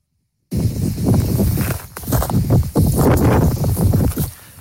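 Loud, continuous wind buffeting a reporter's microphone on the phone line from a wildfire in the Minervois, France, a low roaring rumble with gusty surges and crackling bursts, cutting off abruptly after a brief silence at the start; no voice can be made out.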